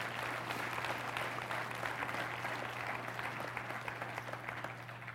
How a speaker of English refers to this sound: Regardless of the storms of my life, would you give God a clap offering right now?